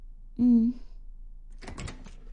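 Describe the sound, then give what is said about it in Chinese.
A short hummed vocal sound, then a door at a ranch opening with a brief rattling, scraping burst of noise lasting about half a second before things go quiet. “你好麻烦呀，开门。”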